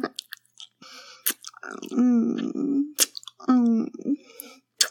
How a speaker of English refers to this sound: Teasing and teasing out your hot sticky cum while I suck and lick and slurp all over your cock.